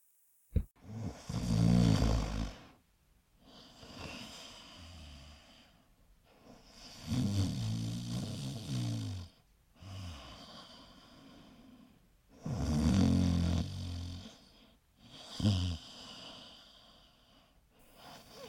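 Loud, rumbling open-mouthed snoring of an ogre asleep in his bedroom, with four long rattling snores coming at steady intervals and a faint breathy pause between each one. Heavy, with no talking.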